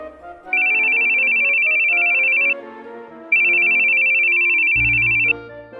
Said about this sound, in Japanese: 噂をすれば、ほら、彼女からの電話だぜ。熱いね、ヒューヒュ ー。人の携帯勝手に覗くなったく。